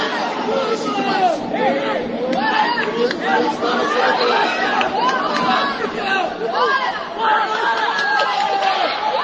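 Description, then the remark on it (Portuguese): At a taekwondo competition, a crowd of friends and spectators in the stands fills the space with steady, overlapping voices and shouts, a loud, continuous babble of many people calling out together. “No tatame, chutes, pulos, gritos e nas arquibancadas, a torcida dos amigos.”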